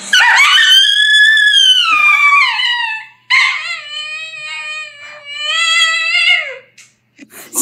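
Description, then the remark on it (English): A husky lets out two long, loud, wavering howling screams as it reacts to being barked at, the first rising then sliding down, a brief gap, then a second drawn-out cry that trails off. “I knew it was going to be a screaming husky.”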